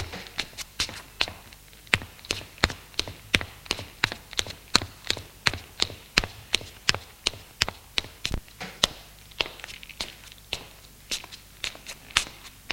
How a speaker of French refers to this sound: Monte les escaliers.